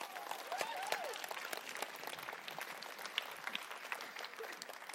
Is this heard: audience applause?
yes